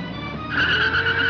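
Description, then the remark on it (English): A clean white luxury car's engine roars loudly as its tires squeal sharply, the screech rising midway and holding steady as the car peels out and speeds off, fleeing. “Fortunately, Two-Ply spotted us immediately and took off.”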